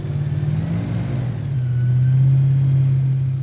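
An airboat's engine roars as a man starts it in floodwaters near Sarasota, its low droning hum climbing in pitch as it revs up and then holding a loud, steady tone.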